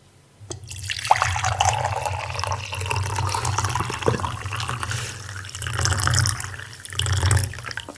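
Tea is poured steadily into a large cup, a continuous splashing, gurgling stream that swells louder toward the end as the cup fills, with no voices.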